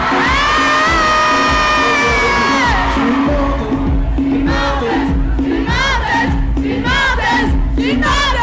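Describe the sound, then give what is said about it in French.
A large festival crowd roars together in a long, sustained collective yell, then keeps up a loud, dense wash of cheering with bursts of whoops and shouts rising throughout, continuous. “et on a entendu des gros cons gueuler qu'ils étaient des menteurs.”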